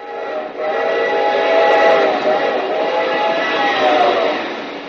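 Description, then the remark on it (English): A train thunders past, a loud, steady rumble of wheels and cars lasting several seconds, with a sustained whistle tone riding on top throughout. No one speaks. “And just think, someday, men will build a railroad with shiny rails and trains will go thundering by.”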